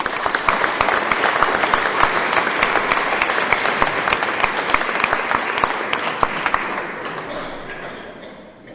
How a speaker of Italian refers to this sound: Un caro saluto, permettete un applauso anche per voi.